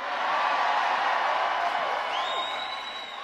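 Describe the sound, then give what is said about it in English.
An AI-generated large crowd cheers in a dense, steady roar that holds for the whole stretch, with a high, thin whistle rising over the noise near the end and no clear voices. “Very, very realistic sounding AI for those crowds.”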